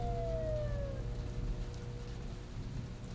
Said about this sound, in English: Just as he was hauling himself up from the thick brown mud, he heard a siren in the distance.